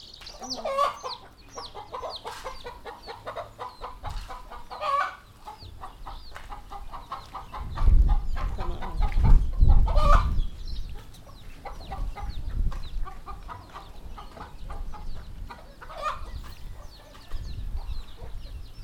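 Many chickens cluck and squawk continuously, a dense flock with overlapping calls, joined midway by a low rumbling burst of wind or handling noise.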